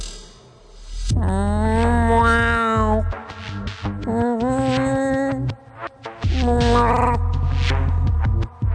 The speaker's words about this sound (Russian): Не знаю, что там за зверь, но уж, наверное, не очень большой, если он так мяукает, сказал Джек.